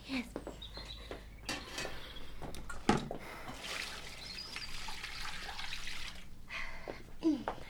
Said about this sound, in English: You haven't scalded the dishcloth in clean hot water as I told you to. Now just go and do it, Anne.